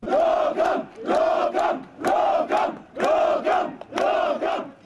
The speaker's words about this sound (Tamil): மற்றவர்களோ எம்மை முகாமுக்கு அனுப்ப வேண்டாம் என கோஷமிட்டனர்.